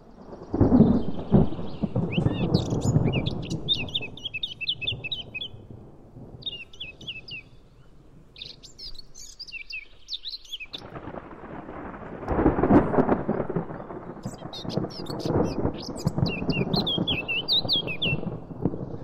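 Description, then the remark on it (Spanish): A Eurasian blackcap, a small woodland bird, sings in quick, warbling bursts while deep thunder from a storm rumbles and rolls loudly underneath, fading briefly midway before a second heavy roll returns. Recorded in a beech forest on the León side of the Picos, after the heat. “Aunque la tormenta no es suficiente, la amenaza del trueno para que una curruca capirotada, un pajarito pequeño del bosque, siga cantando.”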